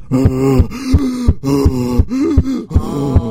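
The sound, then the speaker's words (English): A voice imitates the heavy panting of a man running about 6 feet behind: steady, rhythmic voiced huffs and gasps repeating several times in quick succession, loud, with no other talk. “I mean, I hear his footsteps right behind me. He's breathing heavy, and I slow down.”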